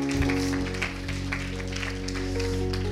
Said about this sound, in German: Dankeschön, liebe Lobpreisband, für eure Unterstützung heute an diesem Tag. Gibt es einen Applaus für Sie?